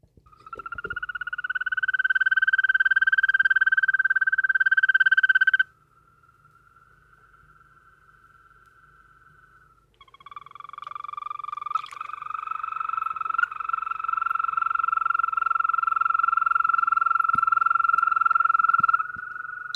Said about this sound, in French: Eh oui, si vous entendez ça, c'est que vous rencontrez un crapaud. Un crapaud vert, plus exactement.